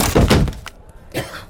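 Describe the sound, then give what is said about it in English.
A chair whose screws had been loosened cracks and collapses in a loud, splintering thunk, then a shorter second clatter follows about a second later. No one speaks. “My chair broke.”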